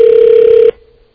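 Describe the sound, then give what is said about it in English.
A loud, steady telephone ringback tone from an automatically placed outgoing call sounds once for under a second, then cuts off abruptly, leaving a faint fading trace. No voices are heard. “Oh, it's an automatic ring bag. Oh, we're calling him.”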